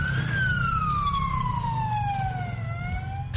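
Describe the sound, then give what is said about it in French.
The siren of a cheap ambulance built from easy-to-find materials wails loudly in one long, slowly falling tone, with a steady low engine or traffic rumble underneath. “Tout comme l'ambulance classique, elle a une sirène, un petit lit.”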